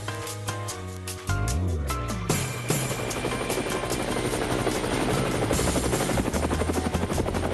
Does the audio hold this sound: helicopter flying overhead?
yes